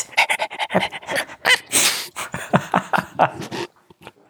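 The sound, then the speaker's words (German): A person imitates a dog panting: quick, breathy huffs in a steady rhythm, fairly loud, running for about four seconds before trailing off. “Rappy könnte auch ein Hund sein. Rappy, ja, komm.”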